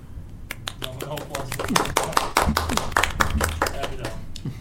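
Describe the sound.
A small group of people claps together for several seconds, the sharp, irregular hand claps overlapping into a steady patter of applause, with faint voices murmuring underneath.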